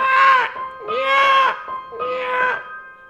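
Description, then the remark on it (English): Foxes' mating calls at 5 a.m.: three loud, raspy, wavering screams, each about half a second long, coming in a steady sequence with short pauses between them. “Can you hear the sound of those foxes fucking?”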